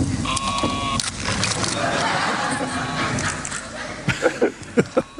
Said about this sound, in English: Sheep in the box, I think that was the title for it. It was a wooden box with some holes on it and giving this sheep sound and running around the room.